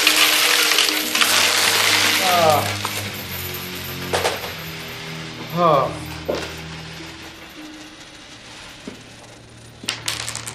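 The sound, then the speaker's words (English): A dense metallic clatter of coins poured from a small leather pouch onto a table, fading into a few scattered clinks and ringing pings as the last coins settle and spin out. “Fox pours from it a cascade of coins onto the table”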